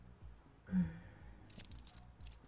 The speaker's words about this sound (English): Let me zip up